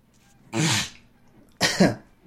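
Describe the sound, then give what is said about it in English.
Someone clears their throat twice, two loud rough bursts about a second apart, with nothing else in the background. “Sorry, I always clear my throat before I do these videos, but for some reason, every time I lie down, I always have this problem.”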